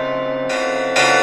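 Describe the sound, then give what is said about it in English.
Loud alarm bells ringing in quick succession, each new strike layering bright, sustained metallic tones over the still-humming ones before it. No voices. “Hear the loud alarm bells, brazen bells.”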